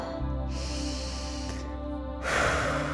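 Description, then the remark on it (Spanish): A slow, deep breath drawn in through the nose, held briefly, then released in a louder, airy exhale, steady with no talking. “Vamos a hacer otra respiración más.”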